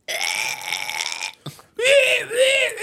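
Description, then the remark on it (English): A person vocally imitates a squonk hunting call: a strained, nasal, wailing cry held for over a second, a short break, then rising and falling squealing wails that sound like a crying pig. “Sounds like a crying pig.”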